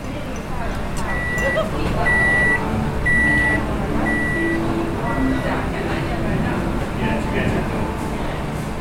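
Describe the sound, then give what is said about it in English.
A microwave oven beeps four times in a steady, evenly spaced series of short, bright electronic tones, heard over a busy background of indistinct voices, laughter, cooking and clattering kitchen noise in a new home. “Bing of the microwave.”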